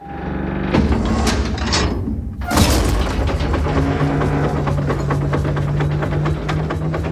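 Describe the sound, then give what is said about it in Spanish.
A heavy hermetic bunker door, a film sound effect, grinds and slides with deep mechanical rumbling, punctuated by loud clunking bolt impacts around one and three seconds, followed by a sustained low hum and rattling. “Pues mira, esta puerta yo me acuerdo que había que darle como un tono así como de cerrojo, un poco subterráneo, pues como algo muy hermético.”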